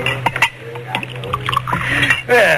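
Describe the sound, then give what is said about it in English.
Clinks of glassware, then a short splashing pour of whiskey into a glass, over a steady low hum and faint background murmur. “Do you mind if I pour myself one?”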